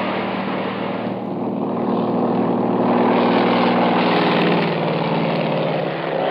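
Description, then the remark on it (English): A small airplane engine roars at full throttle as the plane takes off, a loud, continuous buzzing drone that swells slightly midway and holds steady to the end, with no voices. “We reach the plane, yank open the door, and dive in. Frank guns it off the ground just in time.”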